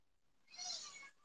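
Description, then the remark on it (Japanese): A single drawn-out cat meow, fairly faint and thin, rising and fading over about half a second with no one talking. “猫も泣くよ、そりゃ。”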